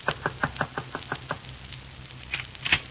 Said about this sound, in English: It was exactly 9:10 when I knocked on Marvin's door.